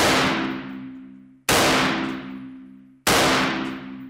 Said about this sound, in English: For kicks, let's also go inside to an indoor shooting range to hear the difference enclosed. Here's an AR-15 or semi-automatic rifle, no silencer, inside.